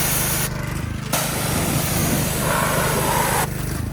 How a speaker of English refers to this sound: Time to do a little bit of power washing.